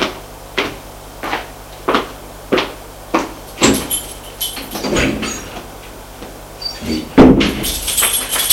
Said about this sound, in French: Elle entend qu'il a fermé la porte à clé.